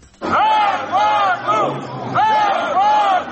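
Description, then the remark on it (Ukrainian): A crowd of several thousand striking Cherkasyoblenergo energy workers, unpaid for over 4 months, shouts in loud, rhythmic unison in the morning outside the walls of the regional state administration building. Repeated chant-like cries rise and fall over a steady murmur of voices, and the shouting continues without pause throughout. “Зранку такі вигуки лунають під стінами облдержадміністрації.”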